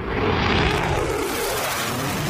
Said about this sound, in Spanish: Este es el sonido del despliegue de los aviones del ejército estadounidense.